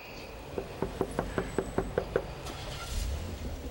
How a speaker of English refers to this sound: I knock on the door and see if they're home. Let me see.